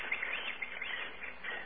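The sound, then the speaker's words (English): Tropical bird calls chirp and warble continuously in a dense, overlapping chorus, fairly quiet, with no voices present. “Ah, tropical birds.”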